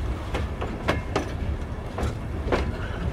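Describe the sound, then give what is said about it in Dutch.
Train wagons of a train of 33 densely packed wagons, boarded by about 2,000 people for a journey of three days and nights, roll steadily along the rails, a constant low rumble broken by a repeating clickety-clack of wheels over rail joints, several sharp clicks in an uneven rhythm. No one speaks. “De reis is lang en erbarmelijk. In een dichtgepakte wagon met een emmer water en een emmer om je behoeften in te doen.”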